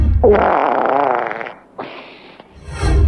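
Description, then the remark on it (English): A long, wet, sputtering fart forced through sweaty cheeks, with a buzzing, flapping quality, then a shorter squeaky burst after a brief pause, loud, with no voices. “I mean, that's someone forcing it through sweaty cheeks.”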